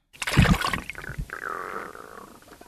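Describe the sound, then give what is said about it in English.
A single sharp splash from an Atlantic salmon jumping in the Penobscot River in Maine, followed by a couple of seconds of bubbling, gurgling water that slowly fades. No voices. “That initial sound is a sound of what we believe is Atlantic salmon jumping, which I recorded in the Penobscot River in Maine.”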